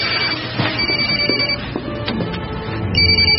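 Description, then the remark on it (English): A cell phone rings with a bright electronic ringtone that repeats steadily for a few seconds. It sounds fairly loud, with no talking over it. “I don't want you answering my cell phone anymore.”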